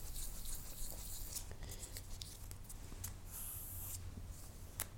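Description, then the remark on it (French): A steady, gritty rubbing and scraping as abrasive on a sheet of stiff paper or card polishes a metal plate smooth for engraving, with small scratchy clicks scattered through, fairly quiet, with no talking. “De la manière dont je le fais à présent, c'est-à-dire en prenant une feuille de papier assez fort ou de carton, papier cartonné, l'abrasif fait son effet.”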